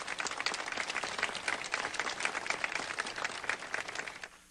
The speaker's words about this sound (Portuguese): Vamos nos acolher a todos com uma calorosa salva de palmas.